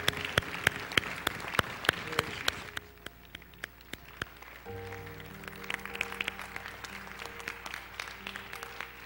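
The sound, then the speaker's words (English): A church audience claps steadily to praise the Lord, dense overlapping hand claps, while sustained organ or keyboard tones rise underneath in the second half. “Let's just give the Lord a big hand clap today, huh?”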